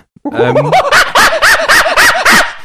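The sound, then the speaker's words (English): A person imitates a chimpanzee call: a loud series of about six rhythmic hooting whoops that rise and quicken, voiced alone with no speech. “That's a chimpanzee.”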